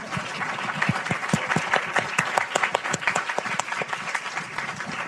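A crowd applauds steadily for about five seconds for Echidna Scholar alumni in the audience, many hands clapping in a dense, irregular patter at an even, fairly loud level with no voices on top.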